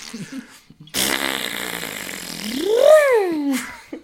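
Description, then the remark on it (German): A long, loud, buzzing fart sound lasting about three seconds, its pitch wavering, then rising and falling in a squeaky sweep before trailing off, preceded by a few faint short noises. “Was sind so die drei Furz-Sounds, die du sehr lustig finden würdest?”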